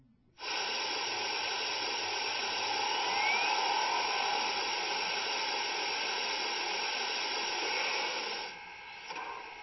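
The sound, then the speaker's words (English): A steam engine builds up steam: a loud, steady hiss of escaping steam starts abruptly and holds for several seconds, constant, then dips briefly near the end. “Let's get her steamed up.”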